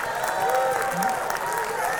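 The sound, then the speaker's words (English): A church audience claps steadily and loudly, with overlapping voices shouting and cheering throughout, creating a dense, sustained roar of applause and vocal exclamations as they clap their hands and shout to God at the preacher's call. “So go ahead, clap your hands and just start shouting unto God.”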